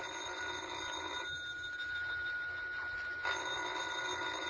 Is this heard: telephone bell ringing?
yes